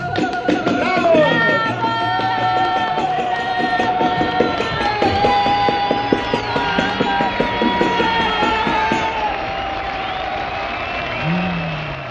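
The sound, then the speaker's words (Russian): A crowd claps steadily for several seconds, the dense patter of many hands mixed with cheering voices and a bright, ringing tonal backdrop, fading slightly near the end. “Мы аплодируем. Браво!”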